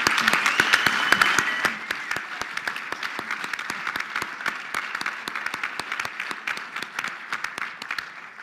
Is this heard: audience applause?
yes